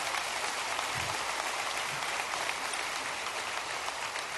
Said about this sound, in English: How about all these volunteers in our church? Let's just give them a round of applause because they matter so much.